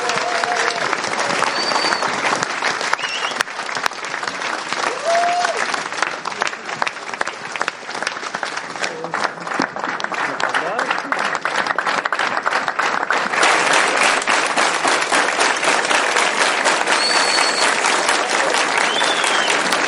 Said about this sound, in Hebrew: טוב, חברים יקרים, אנחנו קודם כל תודה רבה לקבוצת מוסקבה, מגיע להם כפיים סוערות.